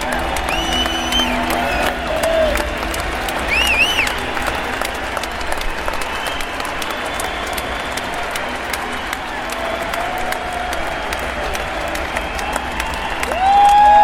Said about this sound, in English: All of a sudden, Jojo heard everybody yelling excitedly.